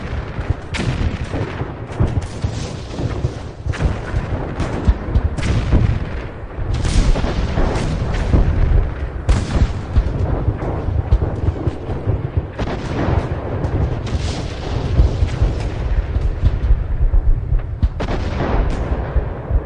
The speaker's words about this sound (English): So you'll hear shelling, and then it'll stop. And it's just so eerie because you hear birds come in at the end. Mm. And the birds are obviously silent during the shelling, but listen to this. This is a minute before the end of World War I.